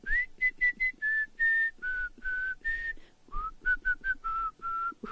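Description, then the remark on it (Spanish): A person whistles a melody, a series of clear sustained notes and quick short ones, with a brief pause midway before the tune continues. “Puta, es que yo silbo estos temas, pues, a ver, espérate.”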